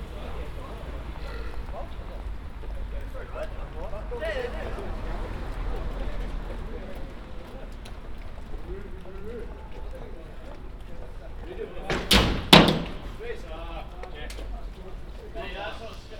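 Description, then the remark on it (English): Busy city street ambience recorded in 3D sound while walking toward the train station at Alexanderplatz in Berlin on a Friday night: steady crowd murmur and footsteps, broken near the end by two sharp, loud clattering bursts before the hubbub settles again. “You're in Berlin right now, walking toward the train station at Alexanderplatz. It's Friday night.”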